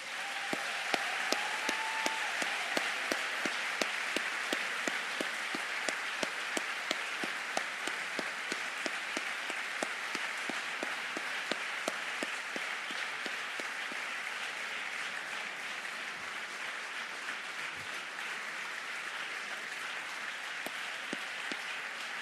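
Sustained, dense applause from a large crowd for the staff, including librarians, caretakers and cleaners, many hands clapping steadily and loudly for over twenty seconds without pause, with a faint brief tone near the start.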